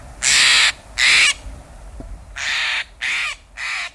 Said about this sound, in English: Do you recognize the loud, demanding call of the Steller's Jay? Often in small family groups, these birds swoop out of a conifer, scattering the smaller birds at the feeder.